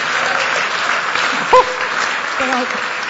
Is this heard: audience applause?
yes